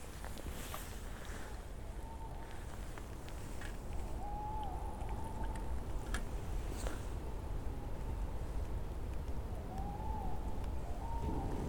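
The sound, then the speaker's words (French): Owls hoot several times at night, mid-pitched wavering calls that rise and fall, standing out faintly above a steady rushing background noise. “Ah, on entend bien les hiboux, hein.”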